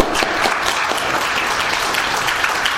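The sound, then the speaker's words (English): A crowd claps steadily in answer to a call for anyone who has been mad at somebody, or had somebody mad at them, to applaud; dense overlapping hand claps forming a loud, even wash of applause that holds at a constant level throughout, with no voices standing out. “If you've ever been mad at somebody or somebody's been mad at you, let's hear you applaud.”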